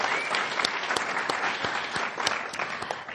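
Sustained audience applause for the questioners and the candidates, a dense wash of many hands clapping steadily with sharp individual claps popping out, holding at an even, fairly loud level throughout without any talking.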